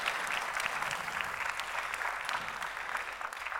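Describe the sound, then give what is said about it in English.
A church audience claps steadily together for a graduating high school senior who read the scripture, a dense, even wash of applause that holds at the same level throughout, with no voices rising above it. “Can we give her a round of applause for reading the scripture for us today?”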